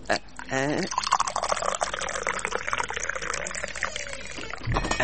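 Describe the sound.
Tea pours steadily into a glass, a close, continuous splashing stream with a rising gurgle that lasts several seconds, while muffled voices murmur in the background.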